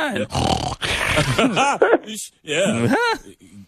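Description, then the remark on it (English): A dog grunts and hacks in a string of throaty bursts, several rough coughs and snorts tumbling together with short pauses in between, as it coughs up stuff. “He's coughing up stuff. He's a noise factory.”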